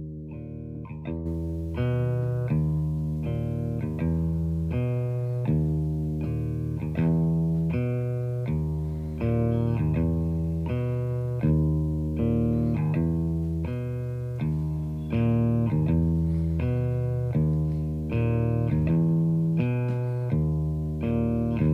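A live band plays with heavily effected, distorted guitar, cycling through a steady repeating riff at a loud, even level. No one speaks or sings.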